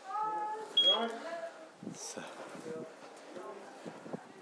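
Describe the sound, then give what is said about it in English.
Busy workplace ambience in a reception area: indistinct voices murmur in the background, a short high electronic beep sounds early, and scattered clicks and shuffles continue at a low, steady level. “So, apart from that, and just some general work ambience you can have here now.”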